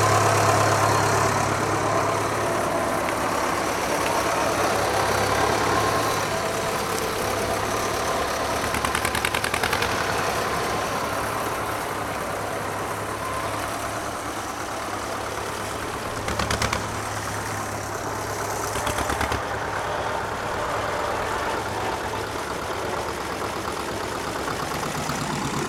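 An engine idles steadily after being started, a continuous low rumble with a faint knocking texture, holding even for the whole stretch with only slight bumps in level.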